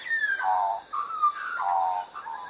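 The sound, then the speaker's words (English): An Australian magpie sings a loud series of fluty, warbling notes that step up and down in pitch, flowing almost continuously with only brief breaks between phrases. “Why do magpies sing?”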